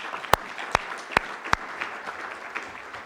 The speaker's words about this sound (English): So join me in giving John a round of applause, if you would.